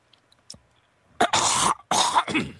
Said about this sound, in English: That wasn't me coughing, I was just clarifying.